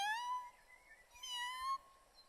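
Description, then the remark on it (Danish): A cat lying in a wicker garden chair in the sun meows twice, two drawn-out, tonal cries separated by a short pause, fairly soft and heard alone with no talking. “Det er en kat.”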